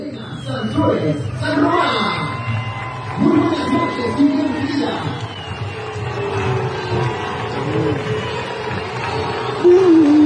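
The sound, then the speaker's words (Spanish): A huge stadium crowd in Campeche boos and shouts at the state governor in a loud, sustained roar, thousands of voices blending into one continuous wall of jeering with cries of "Fuera", swelling slightly near the end. “Se oye un abucheo sonoro, ¿eh?”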